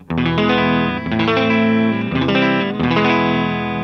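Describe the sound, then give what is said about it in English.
A clean, dry electric guitar with no reverb plays sustained strummed chords through a clean amp, with fresh strums about every second, loud with no voices. “Let's just hear the amp by itself, and then we'll start diving into your pedals.”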